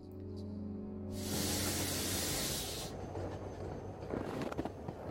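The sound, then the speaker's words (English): A low mechanical rumble gives way to a loud, sustained burst of steam hissing from a steam gondola as a passenger steps off, lasting a couple of seconds, then fading into rumbling with a few clanks and knocks. “And my father, then a young man, stepped off a steam gondola, and thus began his destiny.”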